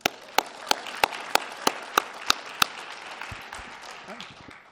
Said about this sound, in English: Let's clap hands for them.